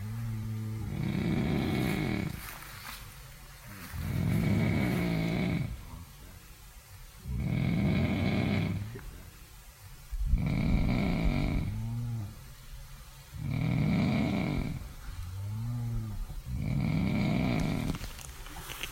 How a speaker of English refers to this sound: But in the tent nearby, there was somebody snoring like an elephant for the whole night. And I let this clip do the talking, but yeah.